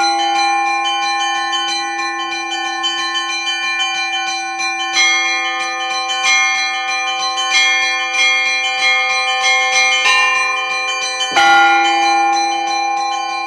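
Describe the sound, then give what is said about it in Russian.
Church bells ring out steadily from a small, recently built bell tower beside the church, played by a bell ringer, sustained metallic tones layering into a rich, resonant peal with fresh strikes every second or so, loud, with no voices. “Небольшая колокольня рядом с храмом появилась совсем недавно, но звонарь Владимир Александров уже стал настоящим знатоком колокольных звонов”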